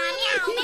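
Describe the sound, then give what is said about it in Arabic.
A person imitates a cat's meow, voicing the cat in the chicken house in a story: a short, high-pitched voice with a wavering, gliding pitch, lasting under a second with no other sounds. “وفي هذه الأثناء يا أحباء الحلوين، كان هناك كلب عجوز يمر بجانب بيت الدجاجة، ولما سمع أصوات القطة والفراخ الصغيرة عرف بسرعة أن هناك مشكلة في بيت الدجاجة، فطرق الباب.”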